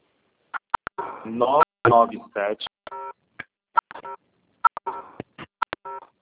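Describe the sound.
A burst of phone keypad tones from someone typing on a phone during a group phone call, short beeps pressed in quick irregular succession, with a few fuller stretches of tone or voice mixed in around the middle.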